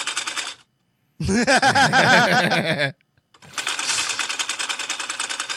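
A sewing machine runs in three bursts of fast, steady mechanical chattering, the middle stretch louder with a wavering, pitched whir, separated by brief silences.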